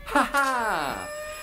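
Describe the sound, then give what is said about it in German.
A voice imitates a telephone ringing with one short, buzzy trill that slides downward in pitch, close and fairly loud, over faint steady high tones. “Ja, das Telefon schellt.”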